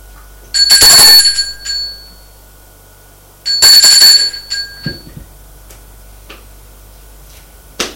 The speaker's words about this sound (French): Arrivé au quatrième étage, au palier, il y a quatre portes d'appartements qui sont peintes en rouge. Il va à la porte du bout et il sonne.